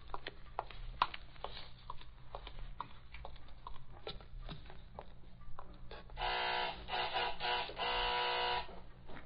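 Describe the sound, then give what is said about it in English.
A door's night bell, rung after hours to summon the night watchman, sounds as a harsh, steady electric buzz, loud and sustained for about three seconds with slight breaks, following a scatter of soft clicks and taps. No one speaks. “I'm going to ring the night bell.”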